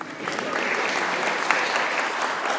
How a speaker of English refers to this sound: Everyone give a round of applause for my wheat seeds.